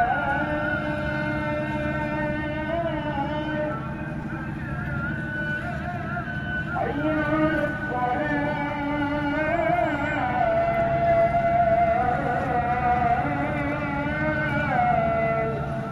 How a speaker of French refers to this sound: À 6h du matin, on a les bateaux.